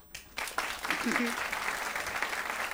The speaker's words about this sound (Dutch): Dit is applaus, hè, bij jullie. Dit is applaus, hè. Dit is applaus.